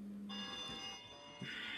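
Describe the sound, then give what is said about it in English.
A phone rings with an electronic alert: a steady, bright, multi-toned chime that holds for over a second, with no one speaking over it. “That'll be my phone.”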